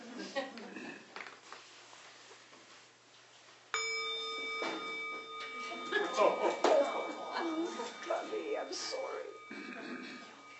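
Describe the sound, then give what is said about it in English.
A single bell is struck partway through and rings out with a long, steady, shimmering tone that slowly fades, while people keep talking over it. “wait, you got the bell.”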